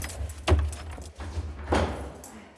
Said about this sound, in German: Aber nach einiger Überzeugungsarbeit meines polnischen Begleiters schließt er die schwere Tür des Leuchtturms auf.